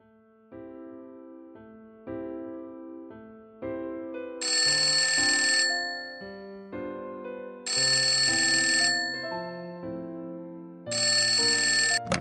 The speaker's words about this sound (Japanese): 事務所にかかってきた一本の電話。それが、すべての始まりだった。